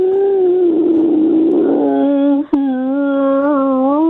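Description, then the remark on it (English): A person imitates a wolf howl with one long, sustained, wavering note that holds steady for about four seconds, loud, broken briefly by a sharp click midway. “No, I want you to do that now. I want you to cry wolf.”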